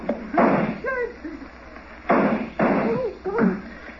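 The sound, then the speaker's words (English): Three sharp, loud gunshots ring out, fired at the lock of a door, irregularly spaced over a few seconds, each a hard crack with a short ragged tail, with brief voice-like sounds in between. “The door, you idiot. I fired at the lock.”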